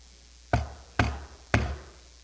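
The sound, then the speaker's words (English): Three firm knocks on a door in an even, steady rhythm, solid with a dull wooden thud. No one speaks and the room is otherwise quiet. “A knock at the door.”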